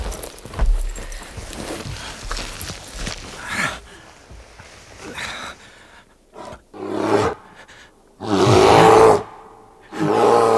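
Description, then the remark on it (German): A bear's deep, growling roars come in several loud bursts, the longest and strongest near the end, after a stretch of heavy, thudding footsteps and rustling movement outside. “Es ist ein Bär!”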